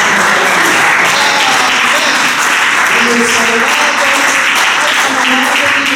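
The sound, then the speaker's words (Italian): A church audience applauds at the close of a prayer in the name of Jesus Christ, steady dense clapping filling all six seconds at a loud level, with voices faintly audible underneath the applause. “Sii Tu con noi, tienici sotto il sangue dell'agnello, nel nome di Gesù Cristo che applaudiamo.”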